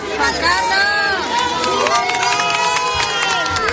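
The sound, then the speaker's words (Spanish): A lively crowd cheers and shouts with many overlapping voices, with scattered clapping running steadily through the whole moment, loud and without pause, as King Juan Carlos is applauded at the entrance of the San Francisco de Borja parish church in Madrid's Salamanca district during a wedding. “Y la atención sí la ha captado el rey Juan Carlos, que se sentó en primera fila junto a la madre de la novia, junto a Beatriz Moreno y Borbón, y que también fue aplaudido y vitoreado a la entrada del templo.”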